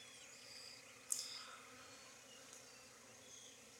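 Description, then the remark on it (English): A dense, steady hum of many bees buzzing around a hive, with a brief sharper buzz as one flies past the mic; no voices, just the continuous swarm drone. “Got lots of bees.”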